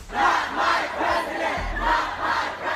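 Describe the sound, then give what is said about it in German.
A large crowd of hundreds of protesters in US cities chants "Not my president" in unison, voices rising and falling in a steady rhythmic pattern, loud and sustained with a low rumble underneath. “Not my president, das skandieren hunderte Demonstranten in verschiedenen Städten in den USA.”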